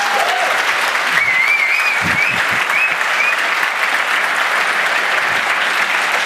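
Sustained audience applause fills the room, a dense wash of clapping at steady loudness throughout, with a few faint whistles or cheers rising above it.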